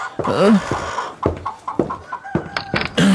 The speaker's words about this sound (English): Oh, what was that? Chickens? What was that?